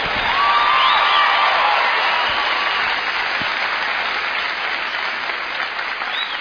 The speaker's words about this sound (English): You hear those little yells, that whee! That's the official redneck noise.